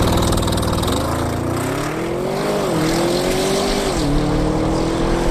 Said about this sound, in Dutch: Rijimpressie in de nieuwe Audi RS6.